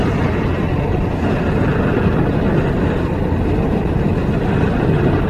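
A steady, loud roar of wind rushing through open car windows on a hot day, dense and rumbling in the low end with no breaks, running unchanged for the whole stretch without any voices.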